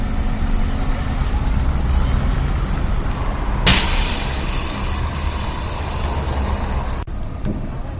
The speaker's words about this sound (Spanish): con los autobuses urbanos ya discurriendo por esa calle San Juan, puesto que las paradas del casco histórico se han recuperado y las líneas 1, 2, 3, 5, 8 y 14 llegan hasta Colón, el sonido era muy distinto, era este otro.